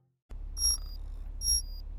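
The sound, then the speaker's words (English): Two bright electronic chimes of an internal conduction alarm ring out in succession, each a clear high tone that fades, over a steady low hum with no voices. “This is your internal conduction alarm.”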